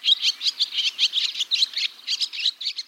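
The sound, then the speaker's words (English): Barn swallows twitter in a steady stream of rapid, high-pitched chirps and squeaky notes, overlapping in quick bursts for the whole stretch with no voices. “One barn swallow parent may fly 600 miles a day while foraging.”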